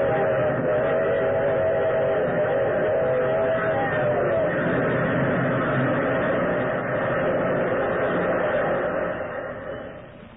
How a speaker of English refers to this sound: The whole picture in that moment burned into my brain. The thunderous locomotive, McGregor transfixed with horror, and the eerie, gesticulating thing. And then the engine was upon it.